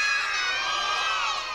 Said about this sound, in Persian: حالا به افتخار خودتون یه دست اورایی بلند.